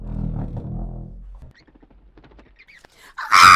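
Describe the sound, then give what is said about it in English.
A bat squeaks and flutters, a sudden loud, high burst near the end after a low rumble and a scatter of faint ticks and clicks. “That's just a bat”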